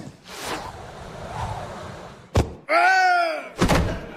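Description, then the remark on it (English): A rushing whoosh builds, then a heavy thud of impact, a short pained cry, and a second thump, as a shot from Harry's aid cannon strikes and kills a man. Loud. “Well, it is a moot point, as Harry has killed the poor man with his aid cannon.”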